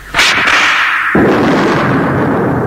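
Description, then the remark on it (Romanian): A sharp, loud whip crack snaps out near the start, followed about a second later by a second burst that fades into a sustained noisy rush. No voices are heard. “Să ne gonească biciul. Ce bici frumos! Există biciul!”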